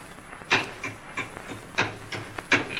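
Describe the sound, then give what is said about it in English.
A hammer and crowbar pry open a wooden crate: a handful of sharp, irregular knocks and creaking wood strains, with a faint hiss between the hits and no talking. “What do you think is in the box? I'll open it up. Hand me that hammer and Jimmy.”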